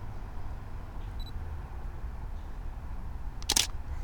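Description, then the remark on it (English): A single crisp camera shutter click, a sharp mechanical snap lasting a fraction of a second, taken while photographing a wood duck, stands out late against a steady low rumble of outdoor background noise. A faint brief electronic beep comes earlier. “I'm waiting for the sun to come out from behind a cloud so I can get another shot of this wood duck.”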